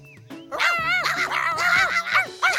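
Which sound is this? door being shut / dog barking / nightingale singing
dog barking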